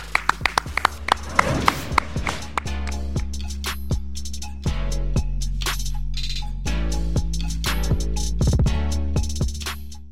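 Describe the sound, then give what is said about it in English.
Sharp, crisp hand claps ring out in an uneven burst, some quick and clustered, others spaced apart, like a few people applauding over a steady low hum. “Clap it up.”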